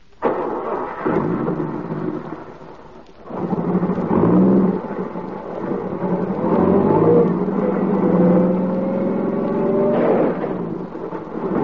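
A car engine revs hard as the car backs up on a road, its whine rising and falling in pitch over a steady low rumble, with no one speaking.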